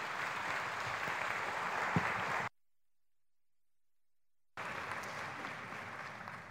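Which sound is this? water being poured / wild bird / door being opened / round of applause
round of applause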